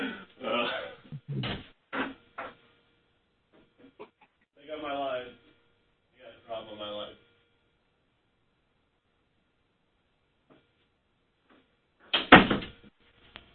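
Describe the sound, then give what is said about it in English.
A door is opened with a quick run of clicks and knocks as someone sticks their head out, followed by a couple of short muffled voices and then a single louder thud near the end. “I thought I was the last one to dial in, so let me stick my head out the door here.”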